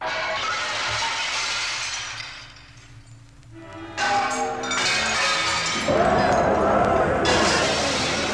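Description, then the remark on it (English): Shop window glass smashing in the streets of Berlin during a pogrom, followed by looting, in a loud, chaotic series of crashes and shattering, with a fresh burst of breaking glass around the middle and another near the end, over a dense, noisy background. “Smashing of glass, the glass of shop windows, followed by looting, a two-day orgy of destruction.”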